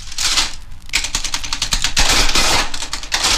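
Rapid mechanical clatter of fingers striking adding machine keys, a dense run of sharp clicks with a brief pause near the start, fairly loud with no voices.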